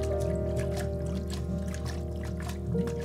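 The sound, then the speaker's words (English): A washing machine's steady low motor hum runs throughout, blended with sloshing, rushing water that swells and recedes like ocean waves, continuous and fairly loud with no voices. “The sound of the washing machine merges with the sound of the ocean.”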